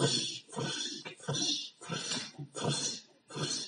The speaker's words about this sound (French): Ça, il a une branche qui craque sous le pied. Difficile d'être discret dans les bois.